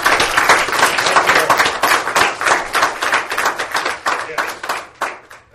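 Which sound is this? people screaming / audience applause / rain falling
audience applause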